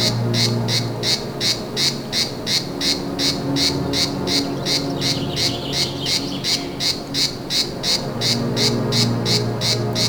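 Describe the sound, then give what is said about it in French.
A cicada in the Médoc, France, sings in a steady, rapid series of rasping pulses, a continuous rhythmic buzzing that carries on for the whole stretch, with a low hum underneath and no talking. “Une cigale dans le Médoc.”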